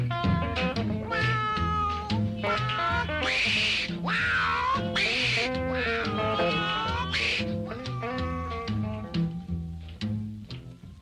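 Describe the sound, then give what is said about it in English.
Repeated cat-like meows and drawn-out wailing glides ring out loud over a steady, rhythmic bass-driven music backing that plays throughout. “You just an old bad cat.”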